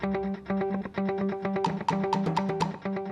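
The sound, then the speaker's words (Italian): A dial-up modem connecting: harsh, buzzy electronic tones pulse in a fast, steady rhythm, with bursts of hissing static cutting in partway through. Loud and continuous, with no voices. “Modem.”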